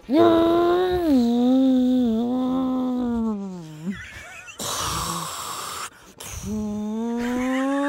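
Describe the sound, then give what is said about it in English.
A person imitates a jet plane with their voice: a long, droning, slightly wavering hum that dips, breaks into a loud rushing hiss, then returns to a steady rising drone. “Throw out a random... Jet plane.”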